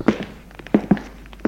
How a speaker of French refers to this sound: Des pas dans le couloir.